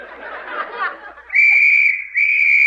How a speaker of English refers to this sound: This is the moment, ladies and gentlemen, we've been waiting for. Just imagine it. On that whistle, 1,000 snorkels were slurped into place.